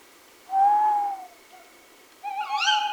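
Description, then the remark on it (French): A steady, low whistled note imitating an owl is followed after a short pause by a tawny owl's loud, wavering, quavering hoot. No one speaks. “Moi, j'aime bien discuter avec les hulottes.”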